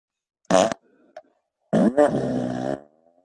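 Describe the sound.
Someone blows loud, buzzy mouth fart noises: a short sputtering blast, a tiny pop, then a longer, wetter raspberry that trails off. No one speaks.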